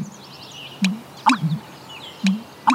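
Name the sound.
american bittern call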